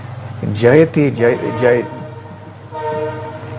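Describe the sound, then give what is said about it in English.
A train passes near a railway station, its horn giving a steady, sustained blare in the final second, after a short stretch of a man's voice chanting a line of a Srimad Bhagavatam verse over a low rumble. “Sorry, there's a train that's going by here. We are near a railway station.”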